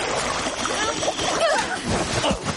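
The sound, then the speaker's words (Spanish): Water splashes and sloshes as something is hauled out of a lake on a fishing line, a moderately loud churning that runs continuously for a couple of seconds. “El hilo sufre tirones. La princesa lo recoge. Saca a Nodino del agua.”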